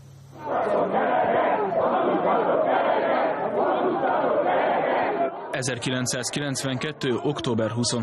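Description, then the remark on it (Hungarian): A protesting crowd at the 23 October 1992 demonstration outside the MTV television headquarters on Szabadság tér roars steadily for about five seconds, a dense wash of many voices, before a single loud voice or chant cuts in clearly above the din until the end. “Tüntető tömeg az MTV szabadságtéri székház előtt.”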